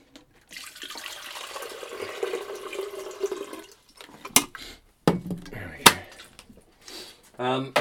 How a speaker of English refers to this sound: However, not to worry too much. Let's just put this water in the kettle and filter some more.